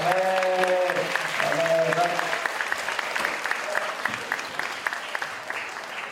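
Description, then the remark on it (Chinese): An audience claps steadily in a dense wash of applause, welcoming speakers. A few voices and a tonal sound carry over it in the first couple of seconds, then the clapping continues alone and slowly thins. “拍手欢迎啊”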